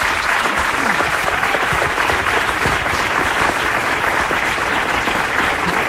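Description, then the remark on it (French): Steady, dense applause from an audience fills the whole stretch, many hands clapping at once in a continuous wash of sound, loud, with no pauses or talking. “Applaudissez-les, s'il vous plaît.”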